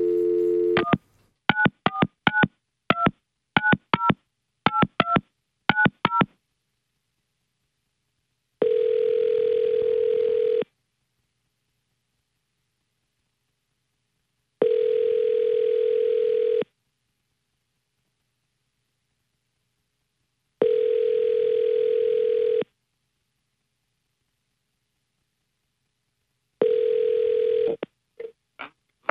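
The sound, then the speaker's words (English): A quick burst of phone keypad tones dials a number to call a raffle winner, followed by a steady ringback tone repeating in long, evenly spaced rings, clear with silence between them. “Let's make this phone call right now and see if we can inform them that they have now won the raffle.”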